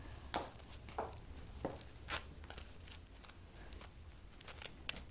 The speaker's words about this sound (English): Can you zip me up real quick?